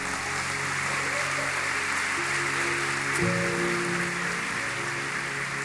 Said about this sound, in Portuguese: Jesus, é para ele esse aplauso.